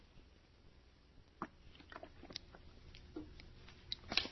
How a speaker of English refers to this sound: allow me to have a little sip of water here.